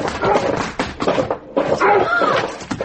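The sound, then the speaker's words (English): A dog with no eyes snarls and hurls itself against a kitchen back door, the heavy thuds and rattling bangs coming in quick, loud bursts, with frantic breathing and voices mixed into the commotion. “that dog! Did you see? It hadn't any eyes.”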